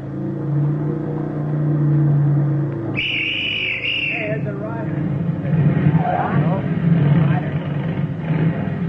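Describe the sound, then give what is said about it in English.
A motorcycle engine rumbles steadily along a road, drawing somewhat louder toward the end, with a brief high-pitched whine partway through and faint indistinct voices in the background. “At 10:18 on the third mile of the road, the platoon heard a motorcycle coming from the direction in which they had come.”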